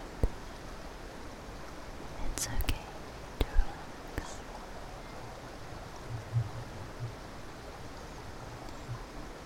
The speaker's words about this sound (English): Let these waters, this relaxing current, make you feel more and more at ease.